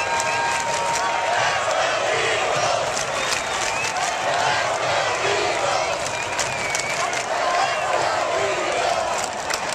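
A dense, steady roar of a large crowd of about 30,000 Eagles fans cheering and clapping at an Eagles game with 2 minutes left, continuous and loud throughout, with scattered whoops rising above the wash of noise.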